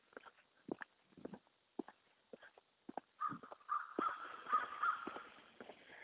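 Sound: crows cawing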